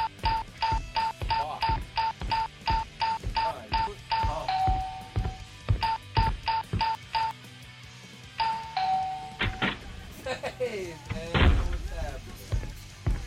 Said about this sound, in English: Can you just get him a key? The doorbell is driving me insane.